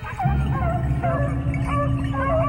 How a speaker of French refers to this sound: Du soir au matin, le vacarme est permanent. Les animaux aboient dans leur enclos